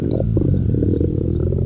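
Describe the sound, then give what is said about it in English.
A hungry person's stomach rumbles: a deep, drawn-out, loud, low gurgling growl that churns steadily for under two seconds with no voices over it. “Sorry, that was my stomach.”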